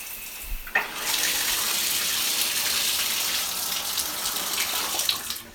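Shower water runs in a steady, bright hiss that begins abruptly after a soft click and a moment of quiet, then pours on evenly with no voices.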